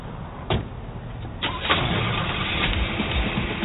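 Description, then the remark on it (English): A car engine cranks with a couple of sharp clicks, then catches and settles into a steady, rumbling idle. No one speaks. “Let's get in the car, man.”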